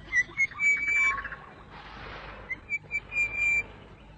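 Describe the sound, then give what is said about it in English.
An orange-breasted bush shrike sings clear, ringing whistled notes in short repeated phrases, loud, with a brief soft rushing noise midway and no talking. “Listen to that bird. Listen to him. He sounds so important, as if he's the only one singing.”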